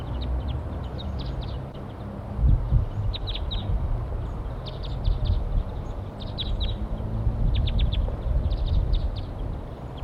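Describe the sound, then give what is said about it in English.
A flock of wild birds in flight circles back around, giving bursts of high, rapid chirps in several clusters over a steady low rumble of outdoor background noise. “And a flock just came back around.”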